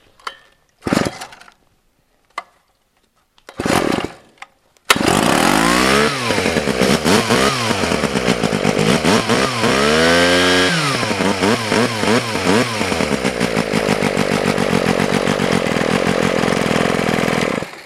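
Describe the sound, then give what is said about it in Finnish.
After a few short pull-start bursts, a Sachs-Dolmar KMS4 chainsaw with a Wankel engine catches and runs loud, revving up and down several times in rising and falling sweeps before settling into a steady, buzzing drone. “Tämä on Sachs-Dolmer KMS4 on tyyppi ja vankkelmoottori. Se on vähän tärinäinen, että se on sen moottorin hyvä puoli.”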